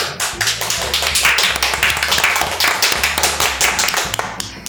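An audience applauds to thank a teacher at the end of an interview, a dense stream of overlapping hand claps that stays loud and even for the whole stretch, with a faint low hum underneath and no voices.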